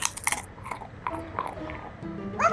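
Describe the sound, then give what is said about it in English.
A dog crunches a small cat treat: a quick burst of crisp, crackly bites at the start, then quieter chewing and mouth sounds with a few faint clicks. “Hey, he likes cat treats.”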